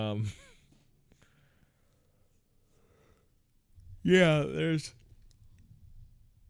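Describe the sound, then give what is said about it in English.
A person lets out a loud, drawn-out voiced yawn close to the microphone, lasting under a second, after a long stretch of near silence and a brief vocal sound at the start. “I gotta stop yawning.”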